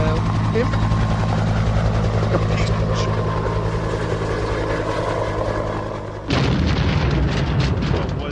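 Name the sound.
helicopter flying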